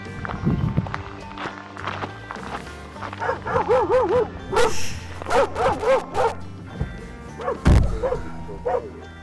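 A dog barks and yips repeatedly in quick, excited bursts, fairly loud, chasing at a person's heels as they return to a van, with footsteps and scuffling movement around it and a sharp thump near the end.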